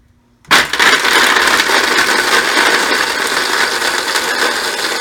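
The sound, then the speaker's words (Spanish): A blender switches on abruptly at speed setting 2 and whirs loudly and steadily, a dense motor roar with grinding texture, blending a mixture into a paste, continuing without pause to the end, no voices. “A ver, cocinerito, me puedes colocar encendiendo la licuadora y el número 2.”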